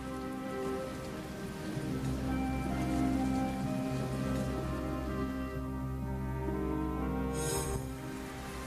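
Heavy rain pours down in a steady, dense hiss, spattering continuously on a surface for the whole stretch without any voices, with a low sustained rumble underneath.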